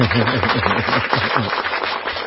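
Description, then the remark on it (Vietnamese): A crowd bursts into dense, steady applause after a song, many hands clapping at once, with a voice or cheering carrying over the clapping for a couple of seconds. “Vỗ tay to lên.”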